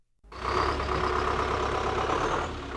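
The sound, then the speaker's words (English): Heavy trucks pass through the gates of a factory complex surrounded by Soviet residential buildings in northeast Moscow, with a steady, loud engine drone and broad road noise, holding for a few seconds before easing slightly at the end. No one speaks. “Trucks pass through the gates of a factory complex surrounded by Soviet residential buildings in northeast Moscow.”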